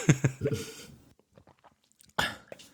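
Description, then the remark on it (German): Someone drinking water from a glass until it is empty: a few short, crackly mouth and swallowing noises at the start, a stretch of faint clicks and small sips, then another brief noisy burst at the end. “Hast du gerade getrunken? Ich habe gerade getrunken.”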